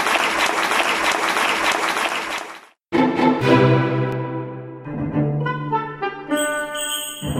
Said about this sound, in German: Nach ungefähr 1,5 Stunden gab es riesigen Applaus für alle Jugendlichen, die auf der Bühne standen.